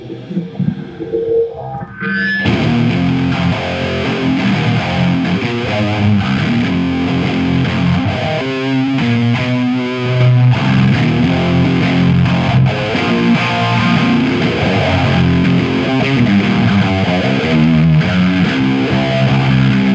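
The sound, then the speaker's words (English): An electric guitar played on patch four, through heavy distortion with a sweeping phaser and a Lonely Ghost effect, dense and sustained after a brief quiet start, chords ringing loudly with a swirling, washed-out texture and no voices. “Can we hear patch four? So the distortion, phaser, and the Lonely Ghost?”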